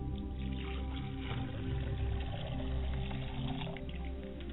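Water is poured steadily onto the ground for several seconds to hallow the spot, a continuous soft splashing and trickling with a low steady hum beneath it and no one speaking.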